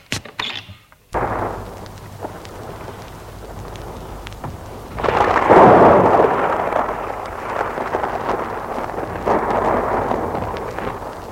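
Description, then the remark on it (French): A storm's thunder rolls and rumbles low and heavy, swelling into a loud crashing peak midway, over a steady wash of pouring rain. No one speaks. “L'orage gronde et il pleut à verse.”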